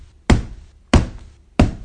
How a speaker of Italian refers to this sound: Qualcuno ode il mio bussare? Se qualcuno ode e apre la porta, io entrerò.